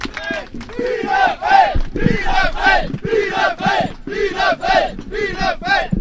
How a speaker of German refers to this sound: Ja, wie ihr hören könnt, schon ordentlich Stimmung, aufmunternder Beifall, respektvoller Umgang des Publikums mit den Akteuren.